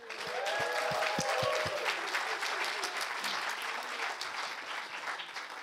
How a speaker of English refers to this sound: and we really would love you guys to honor our youth, and that doesn't just mean having your hearts, minds open and ready, but it means clapping, cheering, like we want this to be interactive.